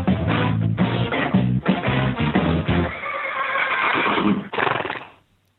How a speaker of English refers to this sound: And now it's time for your Daily Whinnie.